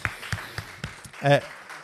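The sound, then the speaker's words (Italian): A brief, thin round of applause as a guest is invited to the microphone: about five sparse, evenly spaced hand claps, moderately loud, followed by a short burst of a voice. “no, non fare il timido, accomodati al microfono, ti facciamo un applauso.”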